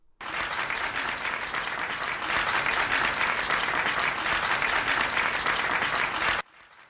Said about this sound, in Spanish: Es un aplauso que se dio hace casi 41 años tras la firma del rey de la Constitución después de que el 6 de diciembre el pueblo español le diera el sí en el referéndum.